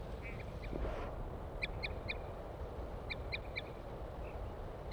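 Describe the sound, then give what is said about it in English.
A female wild duck gives short, high toot calls in two quick bursts of about three notes each, fairly soft over a steady low background rumble. “Here comes the female, giving toots.”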